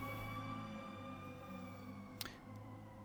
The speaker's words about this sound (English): And for some reason, we just got to stop here because that's a lot of sirens, and so we just need to pray for that.